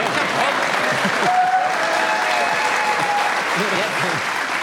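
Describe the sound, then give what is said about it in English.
An audience breaks into steady applause, a dense wash of clapping held at an even loudness for several seconds, with a faint thin whistle running through the middle and voices murmuring underneath. “I did, but then they applauded.”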